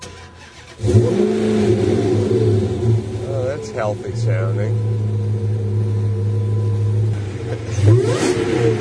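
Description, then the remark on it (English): A car engine cranks and catches near 1 second, then settles into a steady, loud idle with a couple of revs; a man briefly speaks over the running engine. “Well, can we fire it up and hear certainly.”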